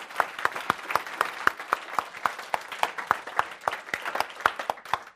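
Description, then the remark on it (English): Audience applause, a steady stream of sharp, bright claps running continuously at moderate loudness, with a few stronger individual claps standing out and no talking. “A big applause.”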